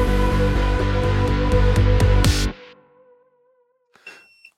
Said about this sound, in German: Das ist schon wieder mein... Dein Hund? Nee, mein Kohlendioxid-Alarm hier. Ich bin schon wieder kurz vorm... Zu viel geatmet schon.